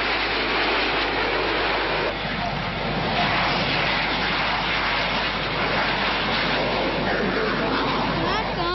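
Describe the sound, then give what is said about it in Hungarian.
A loud, unbroken roar of eight jet aircraft from the Turkish display team flying together in precise formation overhead at an air show, a dense rushing wall of engine noise that holds steady for the whole stretch. “Bemutatójukban 8 sugárhajtású gép repült együtt műtéti pontossággal.”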